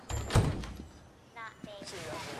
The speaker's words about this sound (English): Harold tentatively opens the door.